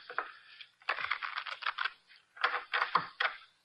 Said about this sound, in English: The cards are shuffled. I'll place them in the center of the table.